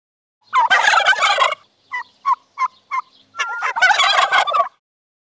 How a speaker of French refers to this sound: I can hear a turkey. J'entends une dinde.